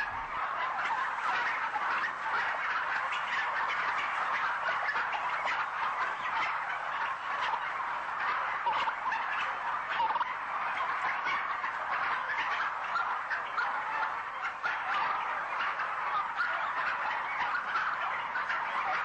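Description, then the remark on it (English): A dense, unbroken chorus of many modern domestic turkeys gobbling at once in crowded farm conditions, loud and steady throughout, with overlapping calls and no pauses. “Many modern turkeys can barely walk.”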